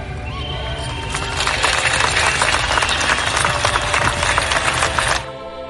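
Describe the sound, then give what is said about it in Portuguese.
A crowd claps steadily and loudly amid singing by a band, at an event with President Felipe Nhusi marking the end of conflict in Mozambique. A dense, crackling wash of many hands with a slight rhythmic pulse, swelling after the first second and cutting off abruptly near the end. “No meio de palmas e cânticos …,”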